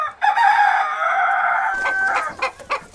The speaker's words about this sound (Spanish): ¿Al gallo estáis hablando?